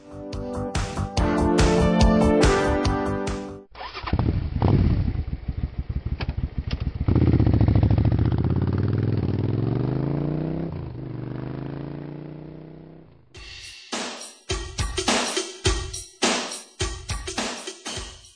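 A motorcycle engine idles with a low rumble, then revs up with a rising whine before settling, sandwiched between bursts of music at the start and end.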